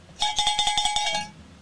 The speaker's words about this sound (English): Okay, cowbell.